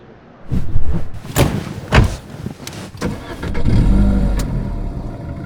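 A car door thuds shut, followed by a few clunks and the starter cranking before the car's engine catches and settles into a steady, low idle. Fairly loud, with no voices.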